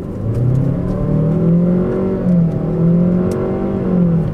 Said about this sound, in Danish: X-Tronic betyder, at bilen er udstyret med en CVT-gearkasse, som også er konfigureret sådan, så mange mennesker ønsker det. Nu skal I høre, hvordan det lyder, når jeg accelererer fra 0 til 80 km i timen.